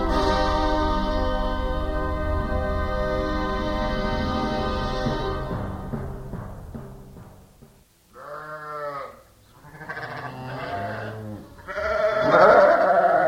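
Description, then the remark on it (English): A flock of sheep on a farm in Massachusetts, at lambing time, bleats, first in a loud, dense chorus, then after a short lull in several separate, wavering calls that overlap one another. “We caught up with her in the middle of her flock.”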